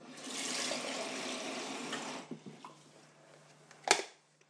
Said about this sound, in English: Fill the kettle.